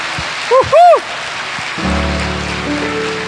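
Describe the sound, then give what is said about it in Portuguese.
Steady, dense applause from an audience at a church service, with a couple of quick rising-and-falling whoops early on; after a moment, sustained keyboard chords swell in beneath the clapping. “Está vindo mais uma pessoa aqui, vamos dar uma outra salva de palmas.”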